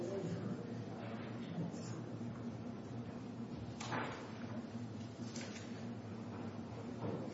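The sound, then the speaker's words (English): A back door eases shut on its door closer and latches with a soft clunk, followed by a lighter knock, over steady background noise. “and let's just make sure that back door closes all the way. It was sort of rattling a bit a second ago.”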